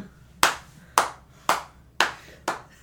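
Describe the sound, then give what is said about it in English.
Five sharp hand claps at a steady, unhurried pace, about two per second, each crisp and bright with a quick decay, heard alone with no talking. “I applaud that thinking.”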